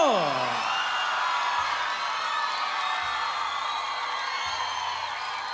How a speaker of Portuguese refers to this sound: Por gentileza, aplaudam.